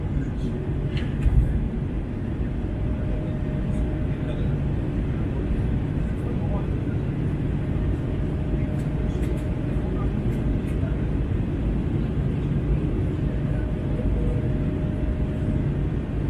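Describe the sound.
A steady, loud, low engine drone fills an airplane cabin in flight, an unbroken roar that stays even throughout, with faint muffled voices barely surfacing beneath it.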